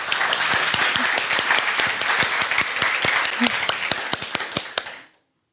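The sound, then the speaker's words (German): A steady burst of applause, many hands clapping close together in a dense, lively patter for about five seconds before stopping abruptly. “Eigentlich hätten wir noch klatschen müssen.”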